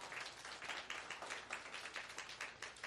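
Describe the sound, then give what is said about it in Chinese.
A church audience claps together to thank God, in a steady, fairly even rhythm, the bright, dense claps filling the whole few seconds with no talking over them. “哈利路亚，拍手谢谢我们的上帝。”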